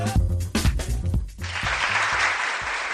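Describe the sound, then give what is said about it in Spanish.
A short burst of music gives way to a dense, steady wash of clapping from a crowd, the applause holding at an even loudness to the end with no voices. “Y este aplauso porque la Cámara de Comercio y la Diputación de Valladolid han puesto en marcha una nueva misión comercial directa en Estados Unidos para el sector tecnológico.”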